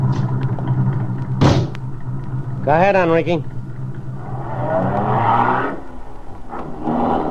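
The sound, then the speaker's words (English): A car engine rumbles steadily in the background, then revs and pulls away, with a thud of a door and a man speaking briefly over the low motor noise. “Get in this car.”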